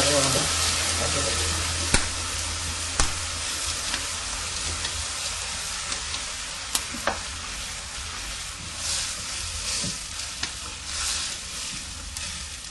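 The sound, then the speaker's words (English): Vegetables sizzle steadily in a pan as water is added, a continuous bubbling hiss broken by occasional sharp clinks and scrapes as a utensil stirs them. “But I like to soak a little bit in the vegetable. And the food. Okay, now we put water, eh?”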